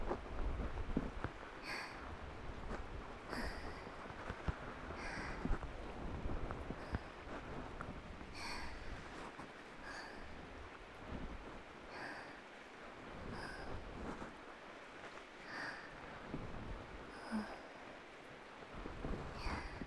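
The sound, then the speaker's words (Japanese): Steady rain hisses, growing heavier, with scattered louder drips and spatters popping out at irregular moments over a dense, even wash of noise. No voices. “強くなってきたね。天気予報は明日も雨だった気もするけど、どうだっけ。”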